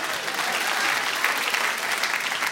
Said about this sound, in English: Yeah, you applaud.